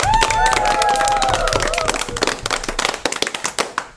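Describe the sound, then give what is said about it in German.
A group of children at a party after their play applaud themselves, bursting into loud applause with whoops and a high cheer at the start, the dense clapping gradually thinning into scattered claps toward the end. “Gebt euch mal einen 5er Applaus.”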